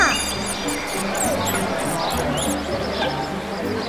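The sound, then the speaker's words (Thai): A crowd of small wild animals at a wildlife gathering place murmuring and whispering together, a steady, busy babble of squeaky, chattering little voices over a low rumbling hum, filling the whole stretch at moderate loudness. “เมื่อสิ้นเสียงของหนูสัตว์ทุกตัวก็ได้เริ่มซุบซิบงึมงำงึมงำ”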